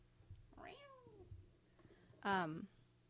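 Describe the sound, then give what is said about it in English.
A male pet cat meows twice: first a softer, drawn-out meow that slides downward, then after a short pause a louder, sharper meow. “Who's a stupid kitty?”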